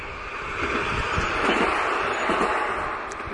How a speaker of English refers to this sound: Here comes another tram.